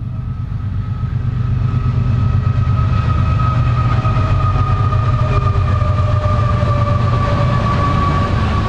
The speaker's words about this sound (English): We can hear that. It sounds like it's here, though. No, it's not across the river. It's right here. It is here. Another train coming. Oh my goodness.